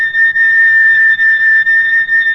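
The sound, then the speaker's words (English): A loud, steady high-pitched oscillator tone of about 4,000 cycles per second, demonstrating a musical note, holds without a break for a couple of seconds, a pure whistle-like pitch with no voices over it. “And finally, if my hand were quick enough to spin this around about 4,000 times a second, the reversals would sound like this.”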